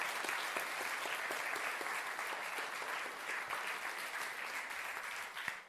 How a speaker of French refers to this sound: Applaudissons le Seigneur, applaudissons le Seigneur.